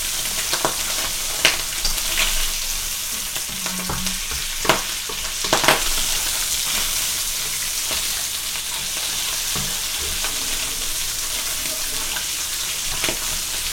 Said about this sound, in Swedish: Ja, ni hör ju hur det fräser på här. Ska de få färg? Ja, de ska få färg. Du behöver inte röra sig så mycket. Jäklar vad det skvätter.